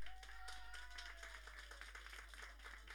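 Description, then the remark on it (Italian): A crowd claps and cheers together in sustained, dense applause, measured on an applause meter to vote for a contestant for a stay in Trentino, with a whistle gliding downward early on and scattered individual claps standing out through the noisy burst. “Io controllo l'applausometro. Uno, due, tre!”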